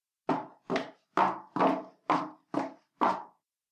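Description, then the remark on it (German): Seven brisk, evenly paced footsteps of a woman walking, each a sharp, hard heel strike on a resonant floor, with no voices. “Take two. Damenschritte.”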